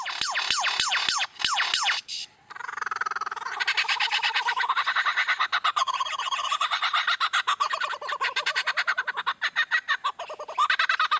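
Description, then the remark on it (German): A lyrebird mimicking sounds: a few sharp mechanical clicks, then a loud, unbroken stream of rapid, buzzing, trilling calls that shift in pitch and texture, with no voices. “Wenn in Australien plötzlich eine Motorsäge heult oder ein Feuerwehralarm losgeht und die Geräusche immer aus der gleichen Ecke kommen, könnte es sich durchaus um einen Leierschwanz handeln.”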